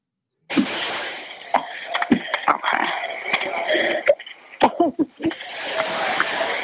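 A woman coughs repeatedly in sharp, harsh bursts during a recorded emergency call, trapped by smoke and unable to get out the door, over a muffled, narrow-sounding telephone line with a steady background hiss and faint voice-like murmur between the coughs.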